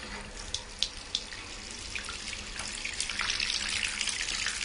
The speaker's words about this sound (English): while the bath's running